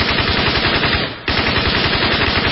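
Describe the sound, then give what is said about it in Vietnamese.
Loud, sustained heavy machine gun fire from the machine guns of North Vietnamese army soldiers at Tân Lập hamlet, Cao Su district, Đồng Nai province, Vietnam, a hamlet among old rubber-tree forest, in rapid, continuous bursts, with a brief lull in the middle before the rattling resumes at full intensity. No voices are heard. “Đạn súng đại liên của các anh bộ đội Cụ Hồ vãi ra như mưa.”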